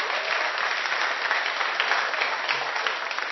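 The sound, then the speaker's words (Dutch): A crowd claps steadily in sustained, even applause for Jeroen for his speaking, a dense crackle of many hands that holds at a constant level throughout without any talking over it. “Ondanks dat hij advies komt ook een hartelijk applaus.”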